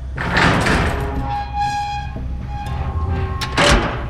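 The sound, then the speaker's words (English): A large, heavy metal door at the end of a hall is pulled open by its rusted handle, grinding and creaking, its rusty hinges letting out a drawn-out, wavering squeal between scraping rumbles, fairly loud with no voices. “I pulled, and it creaked open.”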